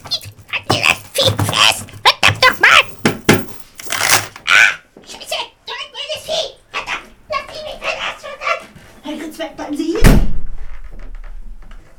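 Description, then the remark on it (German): Excited voices chatter rapidly, then a single loud door slams shut as someone runs away, a heavy bang that leaves a brief low rumble as the talking stops. “Der ist weggelaufen, hat die Tür zugeschmissen.”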